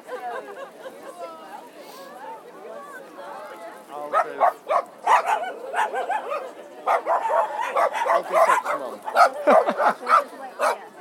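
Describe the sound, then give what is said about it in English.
Several dogs bark and yip in a rapid, overlapping chorus that grows louder after a few seconds, with excited high-pitched yelps mixed in and a murmur of voices underneath. “We'll keep upsetting the dogs here.”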